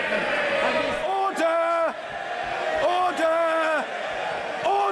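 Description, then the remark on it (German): Loud shouting fills a parliament chamber during the Prime Minister's question time, with several voices calling out in long, drawn-out cries that rise above a steady crowd roar and repeat in waves. “Premierminister traditionell der Fragestunde im Parlament und müssen sich gegen eine Mauer aus Lärm durchsetzen.”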